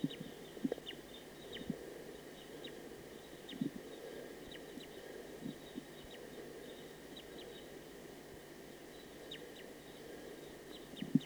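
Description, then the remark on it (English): A faint recorded wild bird call: short high chirps repeating irregularly over a steady hiss and low rumbling background, with no one speaking. “It's a recording wild bird.”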